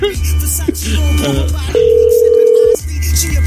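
A steady, clear telephone tone holds for about a second, loud and unbroken, over a low constant hum that runs through the whole recording.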